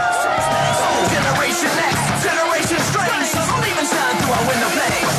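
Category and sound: crowd, crowd cheering and yelling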